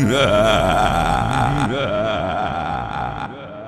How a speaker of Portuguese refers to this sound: Movimento só tratores.